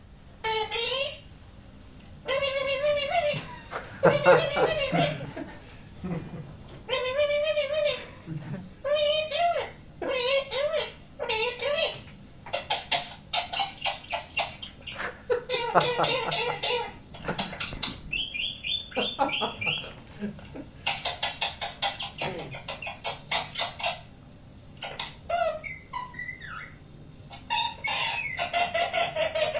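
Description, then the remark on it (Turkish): A pet bird chatters almost nonstop while being petted, a rapid stream of squawks, clucks and warbling mimicked-speech sounds with brief pauses, loud and continuous throughout. “Sevilirken sürekli konuşan bir kuş var.”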